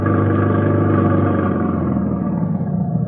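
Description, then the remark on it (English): A truck engine runs steadily at a loud, even drone, with a low rumbling hum and faint clattering, on a dark night in October '43 in Denmark as the truck makes its rounds picking up Jews. No voices come through over the constant engine. “And on a dark night in October, 43, Kelsen, our driver, settled himself next to me in the cab of a truck, and we began our rounds.”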